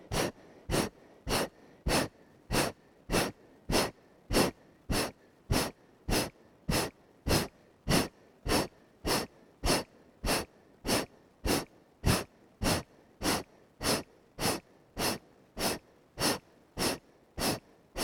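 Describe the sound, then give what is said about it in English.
A long run of sharp, forceful exhaled breaths through the nose during a seated breathing exercise, about two per second in a steady, rapid rhythm, fairly loud with no talking. “Exhale, 2, 3, 4, keep the chest up, 6, 7, 8, exhale, exhale, exhale, exhale.”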